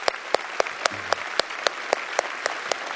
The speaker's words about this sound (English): I think you ought to give applause for that.